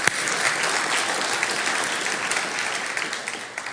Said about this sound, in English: Let's give the Lord another hand clap of praise this morning.